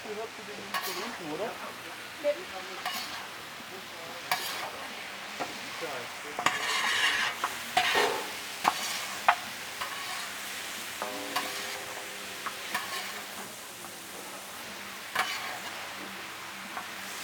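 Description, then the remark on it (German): Rice being stirred and toasted in a pan: a steady dry sizzle under repeated scraping and clinking strokes of a spoon, moderately loud, with occasional sharper clicks. “Es gibt Reis. Reis, Reis, Baby. Genau. Oh, Reis. Like ah, Röstaromen.”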